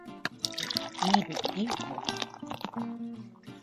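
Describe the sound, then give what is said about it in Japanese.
Orange chocolate stout beer, black like dark beer, pours into a glass, a gurgling, splashing stream with a fizzing, foaming texture that rises and tapers over a few seconds, with faint voices murmuring underneath. “せっかくだからグラスに。”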